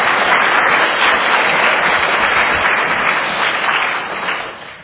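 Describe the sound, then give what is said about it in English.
Sustained audience applause, given as a round of applause for the Lord, fills the space, a dense steady wash of many hands clapping at once, loud, easing off slightly toward the end. “Let's give the Lord a round of applause for that.”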